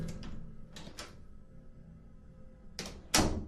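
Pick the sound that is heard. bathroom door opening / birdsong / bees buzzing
bathroom door opening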